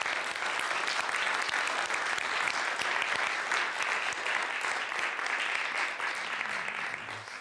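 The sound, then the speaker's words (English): Sustained audience applause given as thanks, a dense crackle of many hands clapping at a steady, loud level for several seconds, tapering slightly at the very end. No voices stand out. “But so the first thing I want to do is, would you just applaud and give thanks?”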